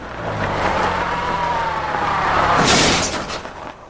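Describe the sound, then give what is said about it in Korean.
A car's engine roars as its tires squeal in a long, sweeping skid as the car slides while driving down a mountain road, rising to a loud burst of scraping noise before fading. Intense, with no voices. “게다가 내려오는 길 중간엔 여러 번 자동차가 밀렸다.”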